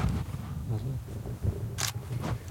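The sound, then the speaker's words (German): A camera shutter snaps once with a sharp, crisp click as a photo of a cave is taken, followed by a fainter click, over a low background rumble and quiet, indistinct voices. “So, ein Foto von der Höhle.”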